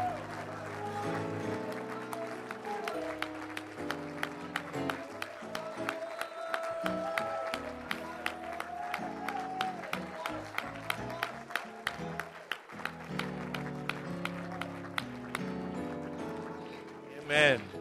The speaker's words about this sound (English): Let's give the Lord a good hand clap of praise as this young man is being baptized. Amen. Come on, let's praise God for a new birth.